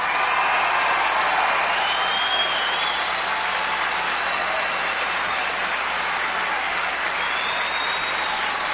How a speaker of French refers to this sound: Il est devant les travailleurs de la Bédjane. C'est pour ça que ça applaudit autant que ça.